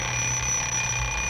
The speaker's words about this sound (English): And it's not missing anymore. It's our crazy clock. It sure got the Christmas spirit now. Certainly has. Let's listen to it.